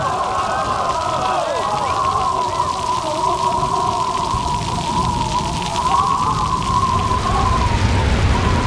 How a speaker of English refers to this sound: More and more rain fell each day until the entire earth was covered with water so much that Noah and the believers could not even see the mountains and trees anymore. The earth was like a huge ocean.